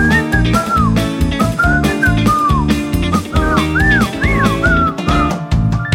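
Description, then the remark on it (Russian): A person whistles a sliding, wavering melody, clear, over a loud, steady rhythmic music backing with a thumping beat throughout. “Все, не свисти, больше денег не будет.”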